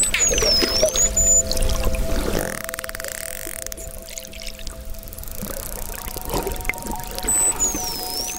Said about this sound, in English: And there she goes under. Man, what is happening under there? This is what it sounds like underwater.